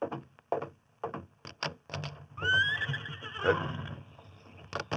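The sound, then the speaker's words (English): Hooves clop in a quick, uneven rhythm, then a big white stallion lets out a loud, shrill whinny that rises and wavers for a second or so before the hoofbeats resume. “He talks about money being hard to get, but he's sure riding a fine stallion. A big white one.”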